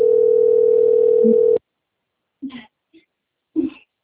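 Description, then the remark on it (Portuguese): A loud, steady telephone dial tone hums for about a second and a half, then cuts off abruptly, followed by silence and a few brief, faint voice-like bursts. “¿Qué está acontecendo com o telefone?”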